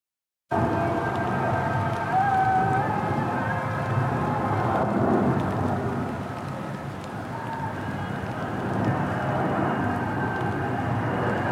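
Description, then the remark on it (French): Steady rain falls continuously in late June, at the start of summer, a dense hiss at constant loudness throughout, with a faint, even droning hum running underneath and no voices. “Le ciel pleure”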